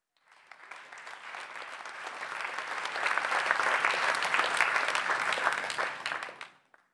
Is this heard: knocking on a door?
no